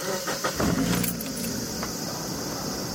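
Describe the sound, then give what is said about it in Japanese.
A Roadster sports car engine, just fitted with overhauled suspension parts, cranks and catches after a brief jingle of keys, then settles into a steady idling rumble with no one talking. “それではエンジンを始動します。”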